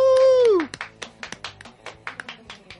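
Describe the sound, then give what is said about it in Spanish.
A short burst of applause in tribute to Alberto Muñoz from just a few hands: about a dozen sharp, uneven claps of moderate loudness, following a brief sustained voice-like tone that slides downward in pitch. “Este es Alberto Muñoz y la verdad, pues vamos a mandarle un aplauso allá hasta donde haya llegado.”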